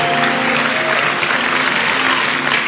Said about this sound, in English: Shout a big amen and clap for Jesus. Clap for Jesus.